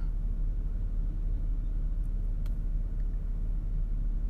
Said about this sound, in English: I've had three more cars drive by me as I'm recording this. This is unreal. It's really interesting. But, and there's a fourth.